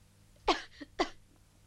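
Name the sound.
coughing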